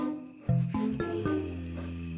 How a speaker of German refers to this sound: Das klingt eher nach Grummelbär mit schlechter Laune. Und das stimmt beides. Braunbären brummen.